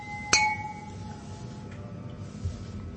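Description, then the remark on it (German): A single bright clink of beer glasses striking together during a toast, ringing briefly with a clear tone, set against a low background murmur, at a venue in Vienna, Austria. “Prost die Herren. Prost.”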